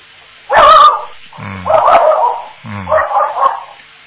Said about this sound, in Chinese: 你家里还养狗啊？ 喂？ 谁叫你家里养狗的？ 不是，有个小宠物。 谁叫你养狗的？